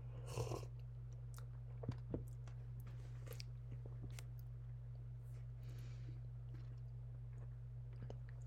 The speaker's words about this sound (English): So I'm just trying to gather my thoughts here. And another sip of water.